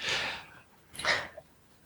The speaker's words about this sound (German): Wollt jemand was sagen? Ich habe einen Atmen gehört, ich wollte jetzt nicht euch in den Tod treten.